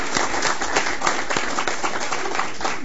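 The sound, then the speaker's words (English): A round of applause for staff at a county board meeting, many hands clapping in a dense, steady patter that holds at an even level throughout, moderately loud with no talking. “So I think we should give our staff a round of applause for their efforts in that regard.”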